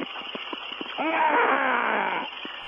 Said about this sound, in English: Look, I can't have you on the air if you're going to scream like that. What was that about?